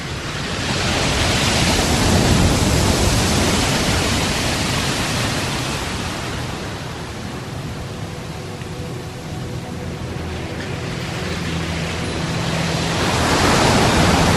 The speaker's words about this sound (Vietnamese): Tiếng sóng biển đêm Quy Nhơn giống như những tiếng thở dài vừa như của biển, vừa như của cả con người.